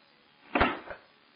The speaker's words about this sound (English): We shut the door.